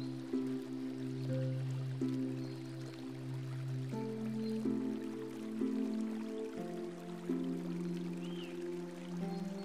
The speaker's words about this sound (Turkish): Pırıl pırıl parlayan nehir yanı başında akıyor, akıyor.